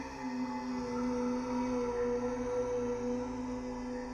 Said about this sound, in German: Am unheimlichsten waren die geisterhaften Brummtöne, die das Haus von allen Seiten überfielen.